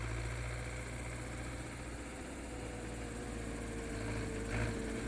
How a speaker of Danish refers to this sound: Shh, siger Geo, og så bliver alle dyrene stille. Det eneste, man kan høre, er en traktor, der kører ude på marken.